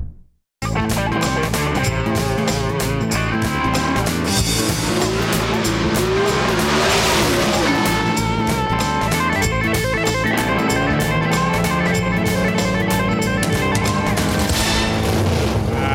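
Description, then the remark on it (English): The engine of a 1949 Mercury car with whitewall tires roars and revs loudly, with tires squealing and skidding through a long continuous stretch, starting abruptly after a brief moment of silence. “49 Merc with white walls. You need that ringtone.”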